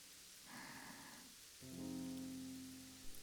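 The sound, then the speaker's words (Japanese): Soft, steady rain patters on a surface throughout, fairly quiet and even, with a sustained low humming tone rising beneath it about halfway through. “そなたは雨は好きか。”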